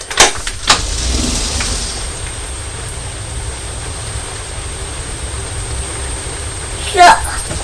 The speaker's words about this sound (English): Just started to spot with the rain as I was walking back into the house. A door! A door! The door? Shall we open the door? Then you can hear the rain.